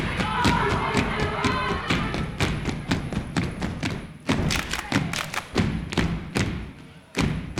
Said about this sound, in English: Stomping energetically, they move into a formation resembling a W.